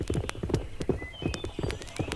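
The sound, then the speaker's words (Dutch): Horse hooves clip-clop in a steady, brisk rhythm on a hard surface, fairly loud, with a few faint higher tones drifting in the background. “Tot halverwege de vorige eeuw geven de mensen hun brief mee aan een bode te voet of een postillon te paard.”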